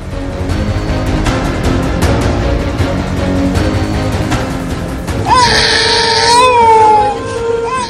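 After several seconds of dense, rhythmic background sound, a child suffering from hunger and illness in Gaza breaks into a loud, high-pitched wailing scream with wavering, moaning pitch that lasts about two seconds before fading.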